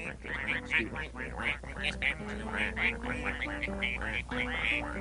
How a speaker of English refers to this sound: I didn't know there was a duck crossing here.